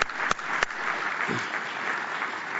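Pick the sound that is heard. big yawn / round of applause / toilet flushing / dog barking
round of applause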